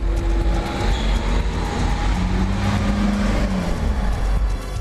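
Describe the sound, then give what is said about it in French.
Steady, loud street traffic of passing cars rumbles, with a low engine drone and a rising-and-falling whine as vehicles pass, continuous throughout with no voices. “Le bruit des voitures, le bruit des pas, le bruit de la rivière qui coulait derrière nous, leur fréquence et qu'est-ce qu'ils représentaient, savoir qu'est-ce qui était agréable pour nous et ce qui n'était pas.”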